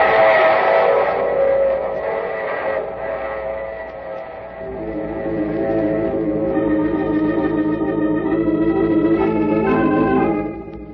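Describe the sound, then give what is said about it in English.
A train whistle blows in sustained, harmonic tones over the steady rumble and clatter of a passing train, loud, with the whistle returning near the end; a sound effect in the radio drama The Mysterious Traveler. “Oh, you have to get off here. I'm sorry. But I'm sure we'll meet again. I take this same train...”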